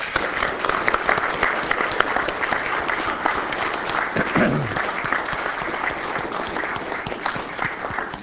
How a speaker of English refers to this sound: I think we should give her a huge round of applause.